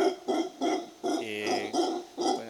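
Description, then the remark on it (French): Howler monkeys in a nature reserve in Nicaragua howl to mark their territory, in a run of deep, throaty calls, about five short rhythmic bursts with one longer drawn-out roar in the middle, fairly loud with no talking. “En gros, ils crient pour marquer leur territoire.”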